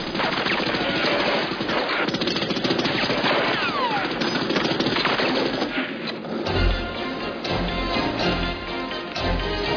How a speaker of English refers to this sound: This was one of the most difficult scenes to shoot because it's all on the water. It has two boats, and the timing was important. Inside the boat, we really gave it to him in gunshots.